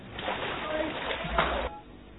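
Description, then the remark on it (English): A short burst of water splashing and sloshing during a baptism, rising to a louder surge near the end before cutting off, with a muffled, noisy quality. “I baptize you in the name of the Father, and of the Son, and of the Holy Spirit.”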